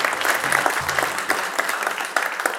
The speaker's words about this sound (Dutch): Een applaus